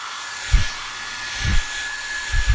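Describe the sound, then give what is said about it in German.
A Dyson hair dryer blows steadily with a broad airy hiss and a faint high whine, while low thumps bump in at regular intervals underneath. “Ein Föhn? Ernsthaft?”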